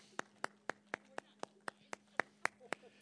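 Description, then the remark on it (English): Hand clapping from an audience giving themselves a hand, a steady even beat of about twelve sharp claps over three seconds, moderately loud, with a faint low hum underneath and no talking. “Come on now, give yourself a hand clap now.”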